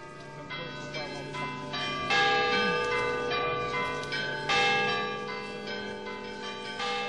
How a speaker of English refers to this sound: But the bells you're hearing now aren't the English bells the poet was probably thinking of. These are the bells of Toulouse Cathedral.